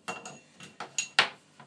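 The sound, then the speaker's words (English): Metal pans clank and scrape against a stovetop hob as they are swapped over, in a quick series of about seven sharp knocks with ringing metallic overtones and no talking. “Swapping over these pans because”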